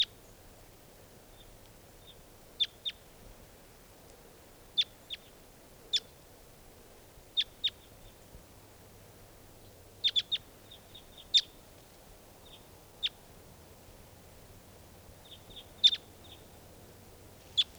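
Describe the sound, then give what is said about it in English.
Two wild birds chirp in short, high, sharp notes, scattered irregularly and sometimes in quick clusters, over a low, steady background hum. No one speaks. “Well, there are three, yeah, just two birds.”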